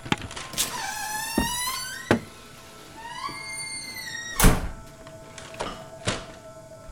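A door creaks open with long, squeaky hinge whines, followed by several solid thumps and knocks. Moderately loud, with no voices.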